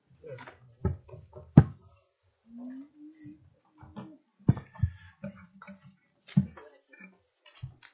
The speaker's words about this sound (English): Need to make sure that chair is under me before I sit down.